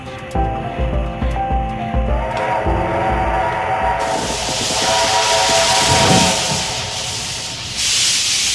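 A steam train lets out a sustained whistle with harmonic tones over rhythmic chuffing, then loud hissing steam takes over, building broad and close, with no voices.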